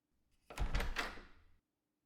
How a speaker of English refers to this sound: So open this damn door or else I'll kick it down!